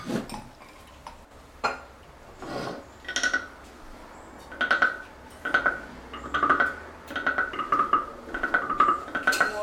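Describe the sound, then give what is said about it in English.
A frog-like souvenir noisemaker brought back from New Zealand rasps in a series of short scraping strokes with a croaking tone. The strokes start sparse and become a steady, faster rhythm, moderately loud, with no talking. “It actually sounds like a frog. Doesn't it?”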